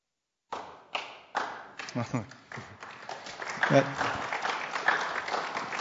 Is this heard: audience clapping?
yes